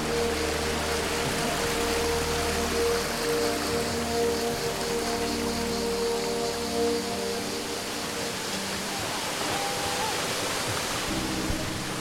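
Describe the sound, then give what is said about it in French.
A steady, dense rush of cascading water from a waterfall in the Jardin des Fontaines Pétrifiantes garden fills the whole recording, loud, with a faint tonal hum running underneath and no break in the flow. “Détenteur du label Jardin Remarquable, parcours dans cet écrin de nature entre composition et curiosité florale et cascade.”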